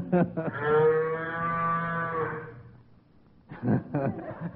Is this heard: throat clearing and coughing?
no